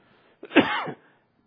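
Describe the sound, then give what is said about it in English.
A single sharp sneeze bursts out, loud and abrupt, with a quick intake before and a breathy trailing release lasting about half a second. “Bless you, my brother.”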